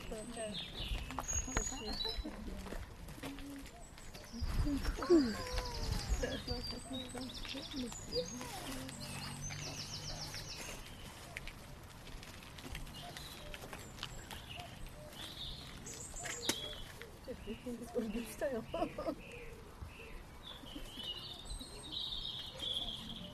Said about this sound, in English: Robin song. You know, Robin has a different song in autumn. So remember this one and listen to one in autumn. It's got a different song. More mournful in autumn.